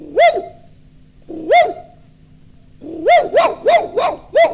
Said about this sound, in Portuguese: E o coelhinho, cada vez mais assustado, subiu o morro e chamou o cachorro. E o cachorrinho chegou, latiu, latiu.